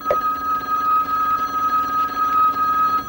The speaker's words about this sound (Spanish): ¿Luisa quiere contestar? Coge el teléfono. Luisa, están llamando.